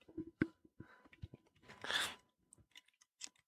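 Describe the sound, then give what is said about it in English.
A mango chili drink can is cracked open into a microphone on the Beer Sauce show. There are a few small clicks and taps of fingers on the tab, then a loud burst of fizzing hiss lasting about half a second, followed by scattered light taps. “Crack mine open to my mic.”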